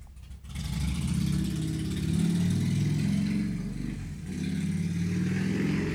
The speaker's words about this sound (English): That guy on a motorcycle